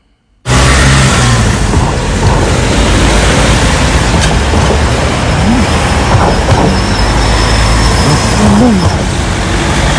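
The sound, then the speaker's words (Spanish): A car rolls over a welded metal joint in the road, giving a subtle soft rattle beneath loud, continuous traffic and engine rumble. No one speaks. “Vamos a escuchar, que he estado ahí grabando, vais a escuchar ese sutil wal-wal que ha cambiado el clac-clac que había antes.”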